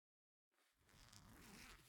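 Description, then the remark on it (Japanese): After a moment of silence, the zipper on the back of a dress is unzipped in one steady, continuous rasping pull, fairly loud, with no one speaking. “この服、後ろにチャックあるから。”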